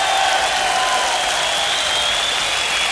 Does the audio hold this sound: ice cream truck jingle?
no